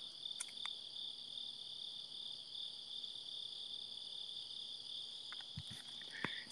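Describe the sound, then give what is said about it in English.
A dense chorus of crickets trills steadily and continuously at a high pitch, filling the whole scene with no pauses, while a few soft clicks and taps pop up near the end. “Oh, you can hear these crickets loud.”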